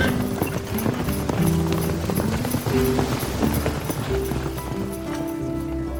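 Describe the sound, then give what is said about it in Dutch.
Horse hooves clip-clop in a steady rhythm as a horse sets off pulling a sleigh, continuous, with a low rumbling background and faint jingling above. “Ilsa tikte met haar stok zachtjes op de rand van de slee en het paard vertrok.”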